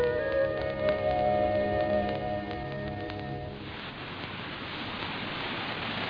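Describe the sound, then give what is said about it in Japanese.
Water of the upper Amazon River in the Andes of Ecuador rushes and splashes in a steady, dense hiss, throwing up white spray at the speaker's feet. For the first few seconds a droning hum with steady tones sits over the water before the plain rushing continues alone. “今私の足元を真っ白いしぶきを上げてアマゾンの上流の水が流れております。”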